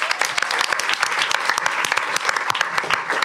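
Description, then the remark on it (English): A crowd claps steadily for the expert guest, burlesque performer Honey Wild, on a comedy panel show, dense overlapping hand claps forming a bright, crackling wash of applause with no pauses, loud and sustained throughout. “So please, a round of applause for Honey Wild, who's our expert today.”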